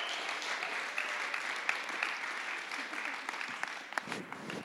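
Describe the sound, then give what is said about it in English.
An audience at a baptism claps steadily for several seconds, a dense, continuous patter of many hands with a few sharper claps standing out, holding an even level throughout. “Praise God. You can clap.”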